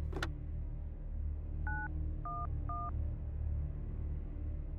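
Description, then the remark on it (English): After a single click, three short telephone keypad tones beep in quick succession as someone picks up the phone and dials, each a clean dual-pitched chirp, over a low steady background rumble with no one speaking. “Very slowly, I reached over and picked up the phone.”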